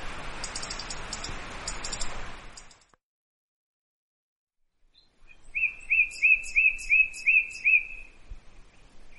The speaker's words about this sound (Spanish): Y bueno, voy a nombrarte algunas más, a ver si las conoces. El petirrojo.